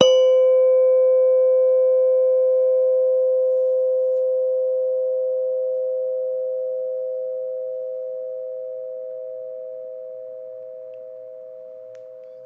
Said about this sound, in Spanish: Ahora escucharás el sonido de una campana. Pon atención a ese sonido y date cuenta del momento en el que dejes de escucharlo.